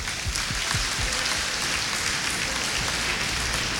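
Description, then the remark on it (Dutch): A crowd applauds steadily, a dense wash of many hands clapping at an even loudness with no voices on top, a few sharper individual claps standing out early on. “Geef de Heer een dame het applaus.”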